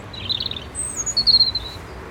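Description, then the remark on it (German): A European robin sings a few thin, high-pitched warbling phrases, fairly faint against a steady low outdoor rumble, with brief pauses between short bursts. “Oh, ein Rotkehlchen.”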